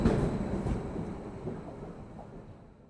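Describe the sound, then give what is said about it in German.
A deep, steady rumble of a train rolling along, strongest at first and gradually fading as it slows, with no voices. The train is arriving at Frankfurt main station, Germany. “Am Frankfurter Hauptbahnhof angekommen, schaute sich Schneewittchen suchend um.”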